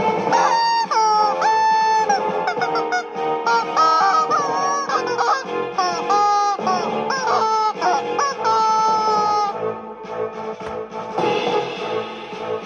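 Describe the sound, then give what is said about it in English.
A squeaky dog toy squeezed over and over with a dog, giving a loud, nearly unbroken run of shrill squeals and honking squeaks that waver and slide in pitch, with no talking. “This is my squeaky toy with my dog.”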